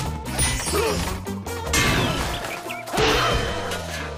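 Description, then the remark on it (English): Loud crashing blows and thwacks strike again and again, a heavy smash every second or so, as Sam and Bugs trade blows with objects including a steel rod, a mallet, a skateboard and a birdcage. Busy, bouncing orchestral music plays under the frantic cartoon-style scuffle. “Sam and Bugs trade blows with various objects, including a steel rod, a mallet, a skateboard, and a birdcage.”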